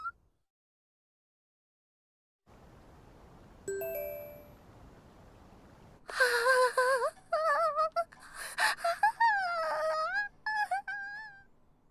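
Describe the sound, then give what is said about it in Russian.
After a quiet start and a single bell-like chime, someone cries and whimpers in broken, wavering high-pitched sobs that come in bursts over several seconds, fairly loud, with no talking. “ты чего это плачешь?”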